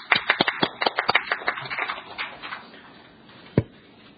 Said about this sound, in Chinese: 我們鼓掌歡迎。